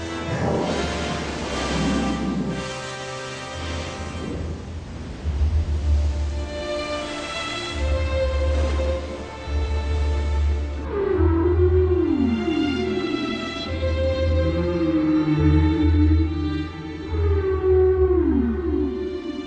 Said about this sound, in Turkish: en büyük deniz canlısı olan balinaların bu sesi çıkartabilen tek canlı oldukları sanılmaktaydı.